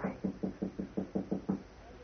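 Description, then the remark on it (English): Seven soft, even knocks rap on a bolted solid wooden door in a quick steady rhythm, muffled and fairly quiet, with no voices around them. “I'll try the door. Okay. It's bolted. Oh? All right, try knocking, but softly.”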